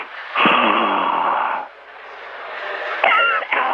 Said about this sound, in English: Now is not the time for you to be doing deep breathing.